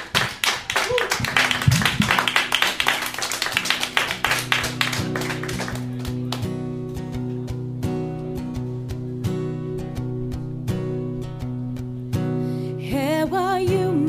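An audience at Iowa Public Radio Studio 1, on the show Java Blend, claps loudly to thank the guests in a dense, steady burst for about five seconds, then the applause fades as music with sustained tones comes in, and a voice enters near the end.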